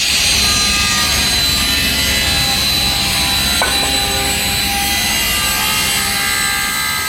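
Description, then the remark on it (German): Wood being sawn to size for a construction site, a loud, continuous rasping cut with a steady whining drone running for several seconds and no one speaking. “ist am Holz zusagen für eine Baustelle.”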